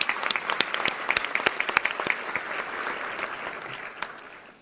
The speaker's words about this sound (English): And I would ask you to join me in a round of applause for the Congresswoman.